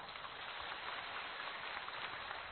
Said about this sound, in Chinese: 鼓掌。